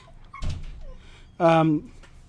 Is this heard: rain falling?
no